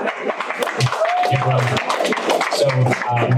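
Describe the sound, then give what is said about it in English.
An audience breaks into loud, continuous welcoming applause, mixed with cheering and whooping voices for the full few seconds. “You guys, please give him a welcome applause.”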